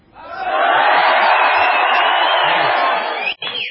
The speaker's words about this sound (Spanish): Vamos a hacer una comprobación. Vamos a gritar, nada, así nada más. Los primeros los de abajo. Adelante.